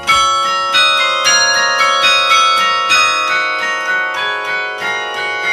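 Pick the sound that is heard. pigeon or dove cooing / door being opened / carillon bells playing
carillon bells playing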